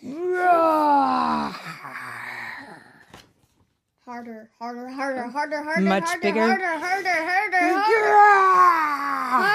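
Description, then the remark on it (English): A child reading a picture book aloud imitates a tiger's roar with drawn-out, wavering, high-pitched growls: one long strained cry, a brief pause, then a longer, louder roar that rises and falls. “You have to roar like a tiger.”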